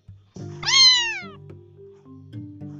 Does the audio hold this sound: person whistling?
no